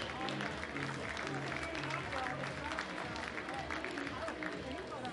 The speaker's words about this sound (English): A well-deserved round of applause from the Skycarp faithful. Ryan Ignafo is going to tough this one out.